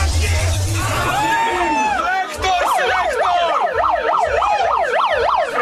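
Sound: police car siren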